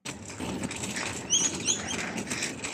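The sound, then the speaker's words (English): Birds in trees near Queen Victoria Market in Melbourne flutter and flap their wings amid steady outdoor noise, with a few short, high chirps standing out briefly midway through; nobody speaks. “I am going to Queen Victoria Market, and there are birds on the trees. I can hear them, but I'm working on the other side of the road, so I won't see them.”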